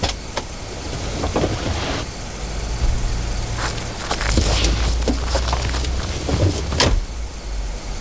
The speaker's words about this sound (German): Als der Wagen losfuhr und davon brauste